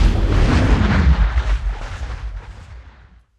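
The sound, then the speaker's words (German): A massive crash of two trains, one a petrol train, colliding in the middle of a bridge: a single heavy, booming impact with deep rumbling that roars loudly and then slowly dies away over a few seconds, with no voices. “Geschieht es, dass die beiden Züge ineinander fahren.”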